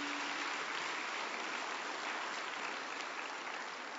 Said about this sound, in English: Hallelujah. Clap unto the Lord. Hallelujah.